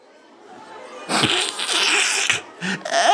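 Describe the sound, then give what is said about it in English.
A voice acts out a loud sneeze from someone with a terrible cold: a quiet rising intake of breath, then a sudden forceful burst of air, followed by a couple of shorter breathy bursts. “Achoo! You've got a terrible cold.”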